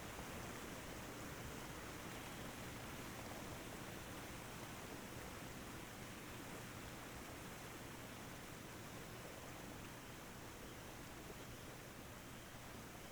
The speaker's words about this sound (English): You leave the waterfall.